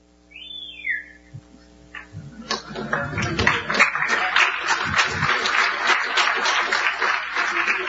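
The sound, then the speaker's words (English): A short rising-and-falling whistle, then an audience breaks into dense, sustained clapping as a presenter at a talk unveils his SSH hijacking tool. The clapping builds quickly and continues steadily, loud and crackling, to the end with no talking over it. “You don't need to clap, but it looks different.”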